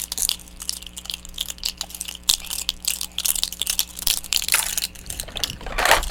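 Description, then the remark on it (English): Irregular crunching and crinkling of a plastic cup being chewed and squeezed, with sharp bursts of crackle over several seconds and a louder crunch near the end. No one speaks. “You need to chew on it?”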